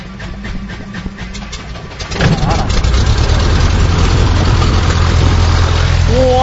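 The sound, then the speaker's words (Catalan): After a couple of quieter seconds, an engine that has just been fuelled with petrol catches and roars to life as it is started, then settles into a loud, steady idle rumble that continues to the end. “Bé, amb això el que estic fent és posar-li benzina al motor, vale? Per poder-ho posar en marxa. I ara posarem en marxa. Farà una mica de soroll.”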